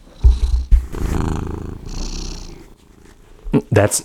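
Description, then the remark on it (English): A male cat purrs softly, a low rumbling drone that rises and falls in gentle cycles, with a few brief bumps and rustles near the microphone. “That's a happy cat. That's a very minimal purr.”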